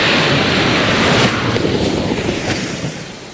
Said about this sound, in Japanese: じゃあちょっとまず、映像ご覧ください。これ時速400キロで、線路の上を走る、ロケット台車の映像です。